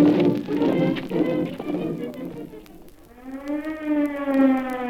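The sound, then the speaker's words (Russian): An air raid siren wails over a city, warning that enemy planes are flying toward it. Its steady tone slides upward and holds high after a rougher, noisy opening; no voices, just the loud, sustained rising howl. “Вот этот беспокойный, тревожащий душу сигнал означает, что на город летят вражеские самолеты.”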